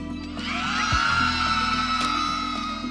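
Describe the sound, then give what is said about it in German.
A group of people screams their anger out over Lake Michigan in one loud, sustained, overlapping roar of high voices that holds steady for about three seconds without a break. “kleine Gruppen, die all ihre Wut in den Lake Michigan hinausschreien.”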